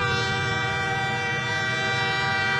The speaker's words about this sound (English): Watch out! It's a train.